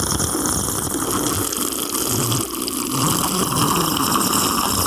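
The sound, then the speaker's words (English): A large Slurpee pours steadily from a dispenser at 7-Eleven, a thick continuous gushing rush that stays fairly loud for the whole stretch, with no talking over it. “So pour, mix and slurp large at 7-Eleven.”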